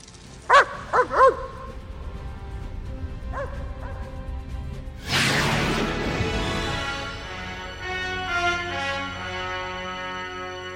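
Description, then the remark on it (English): A voice imitates a dog, giving a quick run of three yapping barks, then two softer yips, followed by a longer, noisier howling bark with no talking around it. “But sometimes I would like to bark like a dog.”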